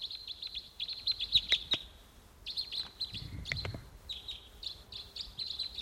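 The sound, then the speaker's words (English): Repeated high, chirping bird calls from wild birds and decoys, coming in quick bursts with brief pauses, plus a few sharp clicks and a short low rumble partway through. “Just the decoys calling there. Stop. Wild bird coming in.”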